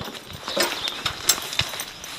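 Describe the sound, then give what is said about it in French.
A Franches-Montagnes horse being harnessed for hitching shifts its hooves, knocking on a hard floor in a few irregular clops over a low background of rustling and movement. “Ce cheval, c'est quoi son nom?”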